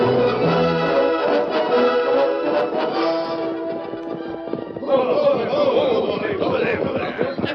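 Horses ridden by men from the cafe to Thunder Morgan's house clatter along at a gallop, hooves pounding in a rapid, busy rhythm with music playing over them, loud throughout.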